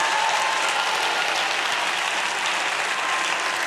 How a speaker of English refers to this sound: No wonder we want to clap our hands. No wonder we want to shout. No wonder we want to dance in the house of God.